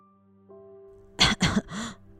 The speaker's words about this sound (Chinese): 因为两人太接近了，奶奶也被传染了，一直咳嗽流鼻水。